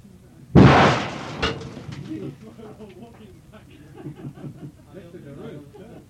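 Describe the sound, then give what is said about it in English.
A sudden, loud blast from half a stick of dynamite booms and rumbles away, followed a second later by a smaller secondary pop, then voices talk and chuckle quietly in the aftermath. “That was the main source of the bang, actually”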